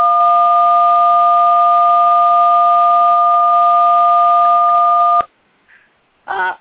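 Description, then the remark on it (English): A steady, loud two-pitched telephone tone on a guest caller's phone line drones unbroken for about five seconds while she is being brought into a broadcast conversation, then cuts off abruptly, followed by a faint blip and a short electronic burst. No one speaks. “Something's going on with Ann's phone.”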